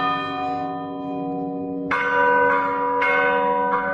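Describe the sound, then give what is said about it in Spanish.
Church bells ring out loudly with a long, shimmering resonance, fresh strikes landing in an irregular rhythm about every half second to second, the overlapping tones sustaining between hits. No voices. “En España existen innumerables modos de tocar campanas.”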